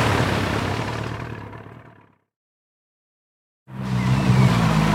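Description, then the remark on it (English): A dive boat's motor drones loudly as the boat turns around and heads back toward a resort, then fades away into a few seconds of silence before the engine roars back in with a deep, steady rumble. “The dive master maneuvered the boat around and headed back toward the resort.”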